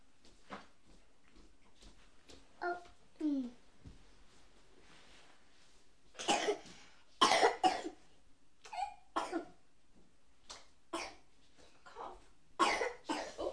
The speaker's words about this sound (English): You've got a bad cough.